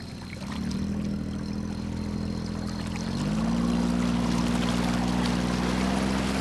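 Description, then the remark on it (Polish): A small outboard boat engine runs steadily as the boat sets off from a marina on the Martwa Wisła near Błotnik, its low droning hum rising in pitch and growing louder as it revs up midway, with water splashing faintly underneath. “No to odpalamy, mocujemy zrywkę i jesteśmy bezpieczni.”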